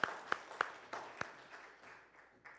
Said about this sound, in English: I think God deserves a hand clap there.